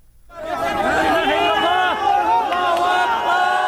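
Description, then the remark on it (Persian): A crowd erupts in loud, sustained cheering and shouting as a teenager is pulled alive from rubble in Jindires, northwest Syria, more than 72 hours after a 7.8 earthquake; many overlapping voices call out together in excited, high-pitched cries that hold steady for several seconds. “صدای فریادهای شادی در پی خارج کردن یک نوجوان زنده از زیر آوار در شهر جندیرس واقع در شمال غرب سوریه پس از گذشته بیش از 72 ساعت از زلزله.”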